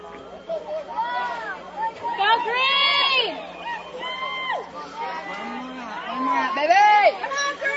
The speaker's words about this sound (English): And the Washington County crowd asking for one more out. That's all they need here.